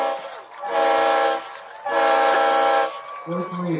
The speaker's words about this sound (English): Yep, you can hear the train whistle blowing as Reginato gets an 11-yard touchdown run.